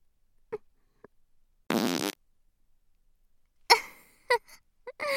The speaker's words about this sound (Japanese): さっきより濃いね。おなら全部嗅いじゃってるようなもんだもんね。